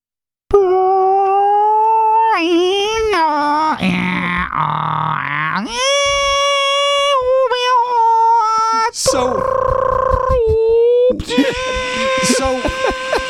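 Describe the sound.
A voice imitates a Kia Niro hybrid car backing up in a garage, sounding like a dial-up modem handshake: a steady tone, then warbling chirps, buzzy screeches and bursts of static, shifting abruptly between high harmonic tones for about twelve seconds with no speech.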